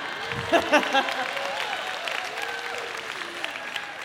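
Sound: scattered audience applause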